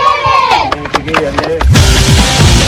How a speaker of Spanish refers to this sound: Con gritos y aplausos incluidos ahí al final del encuentro. Buen triunfo para las chicas de Magallanes.